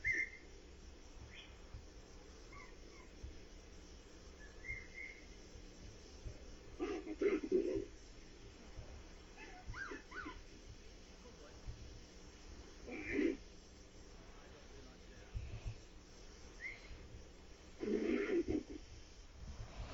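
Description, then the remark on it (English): Faint whistles turn into short vocal calls, arriving in three brief bursts spaced several seconds apart over a low, steady background rumble. “But anyway, you'll hear the whistle, but the whistle also turns into some vocalization.”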